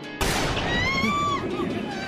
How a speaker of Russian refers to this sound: Выстрел?